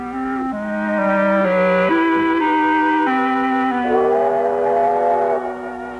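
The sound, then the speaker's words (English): A steam train whistle blows in a long, sustained chord as the train pulls in, shifting pitch through several steps and wavering near the end, loud with no voices. “When the train pulled in next day, it wasn't hard to spot Miss Chalmers.”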